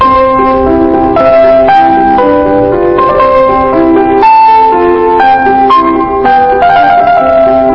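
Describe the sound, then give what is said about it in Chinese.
A bright, tinkling piano melody plays steadily for several seconds from a computer: the opening of the first movement of Mozart's Piano Sonata in C major, clear harmonic notes stepping up and down in a light classical phrase with a faintly electronic, chime-like tone. No voices are heard. “是这个莫扎特的这个钢琴曲，莫扎特的钢琴 C major C 大调 Sonata C 大调的奏鸣曲的第一乐章一开始那段，咱们这谁弹钢琴的一定都知道，我放出来给你听听啊，”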